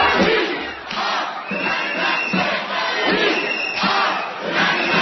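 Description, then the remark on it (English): A crowd of about 1,000 protesters on Jefferson Avenue, in front of the Renaissance Center, chants in unison against General Electric. Their voices rise and fall in a steady repeated rhythm, loud and continuous, with roughly one-second pulses of shouting throughout. “I'm here on Jefferson Avenue in front of the Renaissance Center with about 1,000 other people, holding General Electric accountable at its annual”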